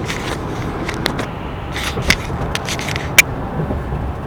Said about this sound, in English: I'm driving a truck, a Nissan Frontier, that I'm renting because my car, my regular car, is being repaired.